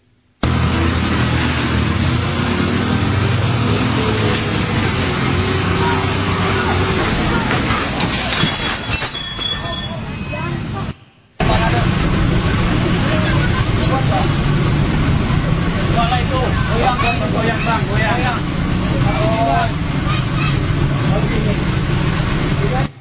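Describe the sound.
A forklift lifting a truck rumbles loudly and steadily under strain and falls into a hole itself, with clanks and creaks of heavy machinery, muffled voices in the background, and a brief cut midway before the labored noise resumes.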